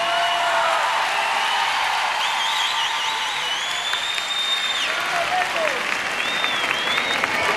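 Sustained audience applause fills the whole stretch, a dense, steady wash of many hands clapping at constant loudness, with faint whistles rising above it here and there.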